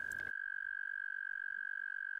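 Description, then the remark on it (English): Male toads in a pond inflate their air sacs and trill loudly and continuously to attract females, a steady high-pitched buzzing tone with a rapid pulsing flutter, unbroken, after a brief noisy rustle at the start. “They inflate their air sacs and produce a loud trill.”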